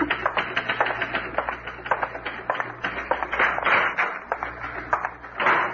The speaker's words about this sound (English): Yes, sir. I'm typing up his report now.